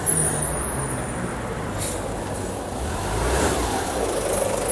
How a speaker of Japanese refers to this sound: さあ乗るんだ、それにみんな乗るんだ。バスが止まりました。何人乗るでしょうか。さあ乗れ。お、動き出しました。